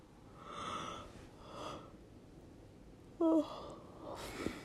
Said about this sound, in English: Oh. Yeah, I wanted to yawn.